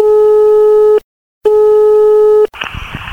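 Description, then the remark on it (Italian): A telephone ringing tone sounds as two long, steady electronic beeps with a short gap between them, then a click and hissy line noise as the call connects. “Vai, telefono, vai, ciccio.”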